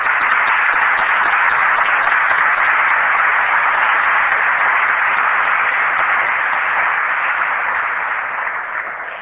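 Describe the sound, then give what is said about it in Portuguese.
A crowd at the Assembleia da República applauds steadily for the deputies who led the committee meetings, dense overlapping hand claps for several seconds before tapering slightly toward the end. Nobody speaks over it. “Para estes deputados peço o vosso aplauso.”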